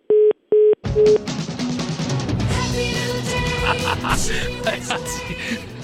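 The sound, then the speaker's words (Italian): Three short, loud beeps of a phone line tone sound right after a call is cut off, then music comes in and keeps playing. “Ogni volta però cazzo, ma perché fai chiudere il telefono a quel poveraccio?”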